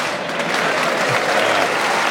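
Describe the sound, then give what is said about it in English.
A crowd applauds with steady, dense clapping that stays loud and even throughout, a continuous wash of many hands with no voices standing out. “So we're getting claps, we must be close.”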